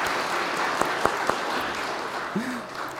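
A crowd applauds in a steady, dense wash of clapping for about three seconds, with a few sharper individual claps popping out and a brief vocal sound near the end.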